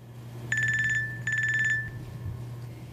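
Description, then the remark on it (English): A phone rings twice in quick electronic trills, each burst about half a second long with a brief gap between, over a steady low hum; no one speaks. “Hi, I'm calling from a battery-free cell phone.”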